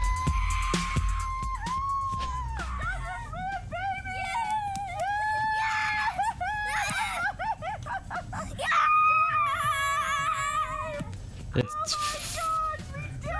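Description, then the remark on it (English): Several voices at a home scream and shriek excitedly over a sports event for over ten seconds, high-pitched yells overlapping loudly, with a few brief breaks between bursts of cheering. “It's like they're flipping out, and I'm just sitting there like... She's like, you don't scream?”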